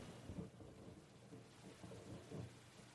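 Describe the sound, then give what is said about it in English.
A thunderstorm with low, rolling thunder rumbling beneath a steady wash of rain, the deep booms swelling and fading continuously. No one speaks. “You want to let the walls down because it's only us, the thunder, and we're sheltered.”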